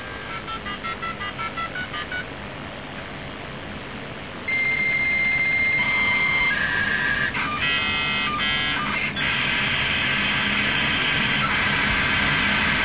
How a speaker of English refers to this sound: The familiar sound of the modem doing its work to enable us to log on.